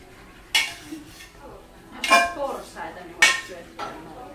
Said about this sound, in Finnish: Myös tiskaaminen ja siivoaminen ovat osa leiriohjelmaa.